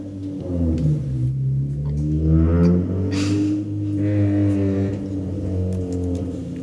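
A car drives past outside during a recording, with a loud, low engine rumble that hums steadily, rising and shifting in pitch as it revs, with a brief hiss midway and no talking.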